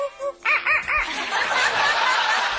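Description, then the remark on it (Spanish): An African grey parrot imitates a rooster's crow: a few quick, rising-and-falling tonal notes, then a rougher, drawn-out, noisy stretch. It's fairly loud, with no talking over it. “How about a rooster?”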